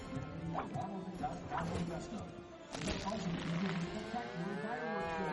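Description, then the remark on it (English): A cow named Lula moos loudly in a TaxSlayer advertisement, long low drawn-out calls that swell and fade over several seconds, with a sharp bark-like burst near the middle. “That big old cash cow.”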